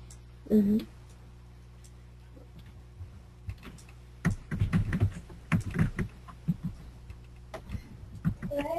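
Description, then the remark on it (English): Rapid clicking of keys on a computer keyboard in irregular bursts, moderately loud, with a brief vocal sound near the start and a low steady hum underneath. “Okay, I can see that you're typing.”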